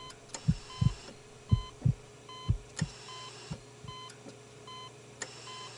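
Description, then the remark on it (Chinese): A patient's heartbeat, gradually steadying, thumps in low, paired beats, with short electronic monitor beeps repeating at a regular pace over a faint background hum. No one speaks. “医生，病人的心跳逐渐平稳，血压降低，意识逐渐清醒中。”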